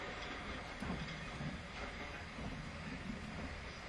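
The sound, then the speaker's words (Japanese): A steady, continuous rumble of a train rolling along the rails, with broad mechanical noise and low droning and no voices; the train is about three minutes from arriving at Kyoto, at platform 0. “ご乗車ありがとうございました。あと3分ほどで京都に着きます。”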